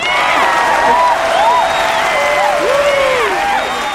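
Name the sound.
applause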